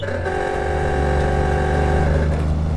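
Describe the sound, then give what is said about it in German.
A car engine runs, a loud, steady low drone with a constant hum of harmonics throughout, and no voices. “Jetzt werden wir die nächsten 200 Meilen hübsch langsam fahren, damit sich das Ding einläuft.”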